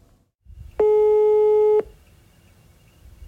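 A single loud, steady electronic ringback tone on an outgoing phone call to a doctor in Stavanger, one beep lasting about a second over a quiet, low background hum, then it stops.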